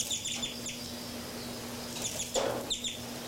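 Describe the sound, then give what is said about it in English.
Several birds, numbered 33 and 59, chirp in short, high-pitched bursts as they fly around, over a steady low hum, with a brief flurry of calls near the end; no one speaks. “More birds, 5, 9 more active here.”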